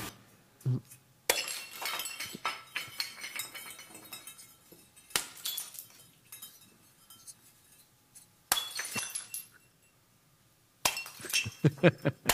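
Repeated bursts of breaking and shattering, with crisp clinks and crunching fragments, come in several loud bouts separated by brief quieter pauses, as pieces of old ceramic pottery are smashed.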